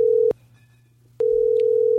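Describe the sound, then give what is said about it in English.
A telephone dial tone hums at a single steady pitch, breaks off for nearly a second, then returns and holds. It's fairly loud, with no one speaking, just before a call is placed. “Well, let's give her a call.”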